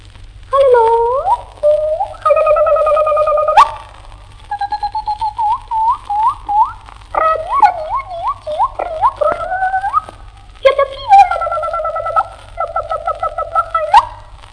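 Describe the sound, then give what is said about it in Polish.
A nightingale sings loudly: varied whistled phrases with rapid repeated trills and rising slurred notes, broken by short pauses, with no one talking. “Muszę zajrzeć do słownika, by zrozumieć śpiew słowika.”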